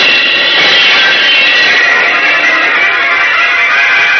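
rocketing flight whoosh

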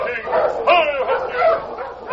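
sled dog team barking

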